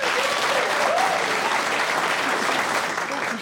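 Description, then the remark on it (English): Sustained audience applause thanking Angela Barnes at the end of the week's show, a dense, steady wash of clapping that stays loud and even throughout, with faint voices or a brief cheer rising briefly near the start. “Please join me in thanking Angela Barnes.”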